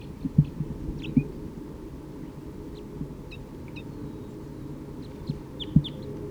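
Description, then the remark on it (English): A wild bird in the trees gives short, sharp alarm calls again and again at an uneven pace, over a low background rumble broken by a few soft thumps. “Sounds like alarm calling.”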